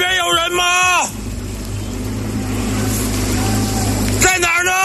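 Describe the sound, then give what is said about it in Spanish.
A police motorcycle engine drones steadily as it rides through floodwater in areas near Beijing, China, searching for missing people after heavy rains, with a broad rushing, splashing wash over the low motor hum. Brief voices speak just before and after. “Va la policía recorriendo en moto zonas próximas a Pekín, con una moto que casi parece un barco, buscando a los cientos de desaparecidos.”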